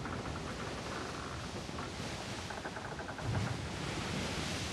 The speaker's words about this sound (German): Und dann schippert ihr quasi dann dahin, über Nacht und tagsüber. Und die Wellen krachen gegen das Boot, der Mast, der knarzt, diese Geräusche.